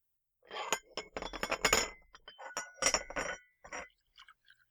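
Coffee poured from a percolator into cups: a busy run of ceramic clinks and knocks, with a short rushing stream of liquid in the middle, then a few lighter taps trailing off. No one speaks.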